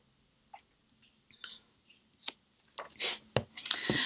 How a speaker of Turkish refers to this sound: Bir yudum daha içeyim. Bu son.